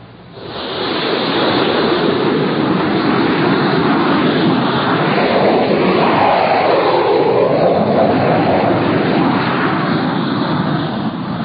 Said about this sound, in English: Six jet fighters were taking off from Hink Field